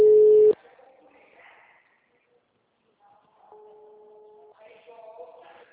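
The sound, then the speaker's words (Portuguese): A telephone ringback tone while a call connects: a loud half-second burst of steady tone, a quiet pause, then a softer one-second steady tone, with faint background murmur. “Sto ligando.”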